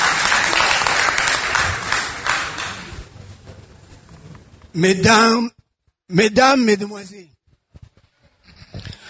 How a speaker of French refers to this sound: Est-ce qu'on peut l'applaudir pour l'encourager? Merci de le faire.